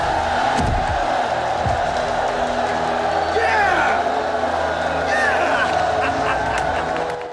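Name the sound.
cheering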